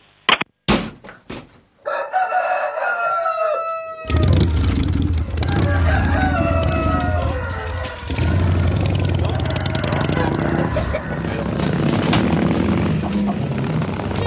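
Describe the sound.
A rooster crows once, loud, a drawn-out harmonic call after a few sharp clicks, then a dense wash of noise with voices and engine-like rumble takes over.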